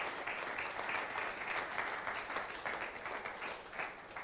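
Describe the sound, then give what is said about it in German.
Steady applause from an audience for the brave people at the front, a dense wash of many hands clapping continuously at an even, fairly loud level for several seconds, with no voices standing out. “Und jetzt gibt mal einen großen Applaus hier für die hier vorne sind, die so mutig sind.”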